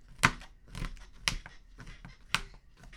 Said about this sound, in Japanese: この板チョコを切るよ。ほら、1個割って。湯煎するってことは、うん、電子レンジじゃダメかな。とりあえずこう細かく切ろう。